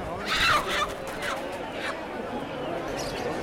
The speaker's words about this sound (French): Un dindon. Tu vois, là, il y a un dindon. Gallineta, llaman eso. Ils sont un peu entassés, là. Donc, c'est à l'entrée du marché, il y a des petites cages avec des oiseaux vivants.